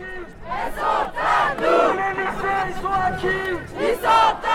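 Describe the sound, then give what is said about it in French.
A crowd of students on a university protest march in Toulouse chants in rhythmic bursts. A student with a megaphone at the head of the procession shouts slogans and the others repeat them together in loud, steady waves with brief dips between phrases. “mégaphone à la main, il crie des slogans à ses camarades qui les reprennent en cœur.”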